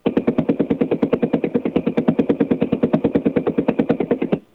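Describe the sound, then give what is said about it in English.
Wi-Fi router emissions made audible: a loud, harsh buzzing pulse train, about ten even beats per second, holding steady for roughly four seconds before cutting off abruptly. No voices. “This is Wi-Fi, a Wi-Fi router.”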